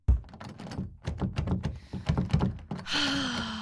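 Someone struggles with a door that is not a real door: a quick run of thuds, knocks and rattling clunks, as if a handle is jiggled and the door shoved, then a steady whining tone.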